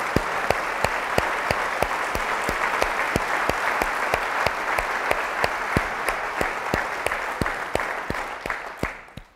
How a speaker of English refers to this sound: Can you please stand and let us give you another round of applause for your outstanding leadership and dedication.